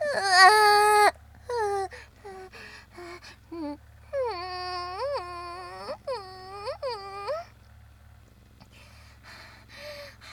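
A baby cries in loud, strained wails, starting with a long cry, then choppy whimpers, and a run of rising-and-falling sobs, with brief fussy sounds near the end.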